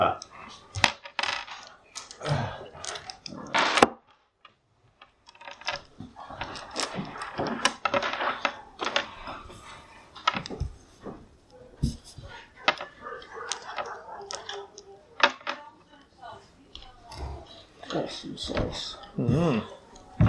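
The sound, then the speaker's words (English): Dice rattle and clack together in quick irregular bursts, sharp clicks scattered throughout, with soft voices murmuring underneath. “Have you got your dice as well? So many dice.”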